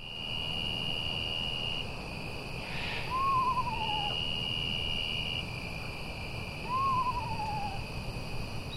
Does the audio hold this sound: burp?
no